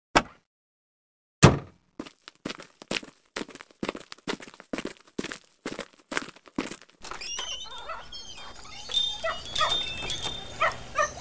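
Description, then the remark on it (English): Dogs bark in a quick, repeated series of sharp yaps, fairly loud, in a pet store, then a busier hubbub takes over with high chirping, crinkling and scattered yips. “Welcome to Fair Deal Pets and Pet Supplies.”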